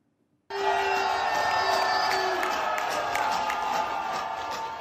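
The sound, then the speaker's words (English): After a brief silence, a crowd at a party with drag queens in Florida bursts into loud, sustained cheering, a dense roar of many voices with high shouts and whoops layered on top that continues steadily to the end. “And yet you still have people cheering her on.”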